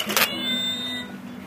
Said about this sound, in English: This is the sort of thing that we sell very well, too. A piggy bank with a skeleton creeping out. Stealing the money. In this case, it's a cat.